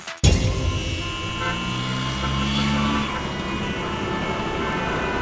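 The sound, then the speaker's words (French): Car horns honk in a traffic jam in Paris, with overlapping sustained blasts over a steady rumble of engines and street noise, loud throughout. “Wie denn in diesem Stau?”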